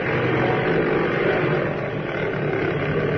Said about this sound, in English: Its four engines wide open, the mighty silver bomber headed down the runway. Slowly at first, then picking up speed, it flashed past the many anxiously watching observers, and with a thunderous roar, climbed into the morning sky.